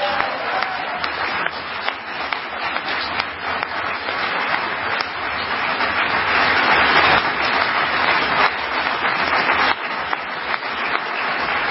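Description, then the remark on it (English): A large crowd applauds loudly and steadily for about twelve seconds, dense clapping swelling slightly toward the middle with cheering mixed in, heard from within the audience and without any speech. “All right, the crowd there obviously loves it.”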